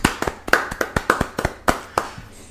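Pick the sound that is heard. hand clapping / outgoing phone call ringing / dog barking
hand clapping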